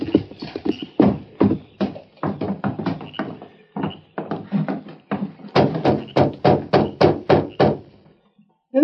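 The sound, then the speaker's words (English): A sheriff knocks loudly at night on the door of a little farm: a run of sharp, evenly spaced raps, coming after a stretch of quicker, uneven clopping taps. No one speaks. “Knocking at this time of night?”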